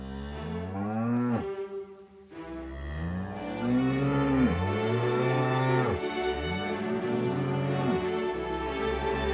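Several cows moo loudly, their long, drawn-out calls overlapping almost continuously, with one brief dip in the chorus before the lowing swells again.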